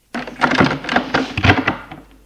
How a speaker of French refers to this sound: demi-heure plus tard, elle entend la porte des WC s'ouvrir.